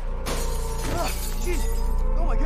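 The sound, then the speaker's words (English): Windows in neighboring buildings shatter with a sudden loud burst of breaking glass, followed by a continuous crashing, tinkling wash of debris, while faint voices cry out underneath. “He heads out onto his balcony as windows shatter in neighboring buildings.”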